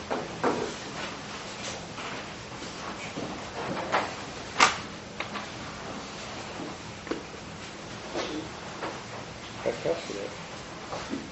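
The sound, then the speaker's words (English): Several thuds and clunks, like doors being pushed shut at the back of a courtroom as people are let in, scattered over about ten seconds against a low murmur of indistinct voices. “We don't want to start till they close the doors.”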